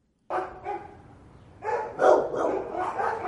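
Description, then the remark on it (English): Several dogs bark in an animal shelter in western Los Angeles that houses more than 200 cats and dogs, their overlapping barks and yips coming in quick bursts that grow busier and louder after a brief lull, with no voices present. “It is rarely quiet in this animal shelter in western Los Angeles. More than 200 cats and dogs live under the shelter's roof.”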